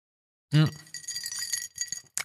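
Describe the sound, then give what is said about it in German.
Ice cubes clink and rattle inside a drinking glass of apple juice spritzer, starting with a sharp knock, then a busy jingling shuffle that pauses and ends with one last bright clink. “Es klingt so verlockend, aber es ist tatsächlich nur eine Apfelsaftschorle mit Eisstückchen. Also mit Eiswürfeln, Eisstückchen.”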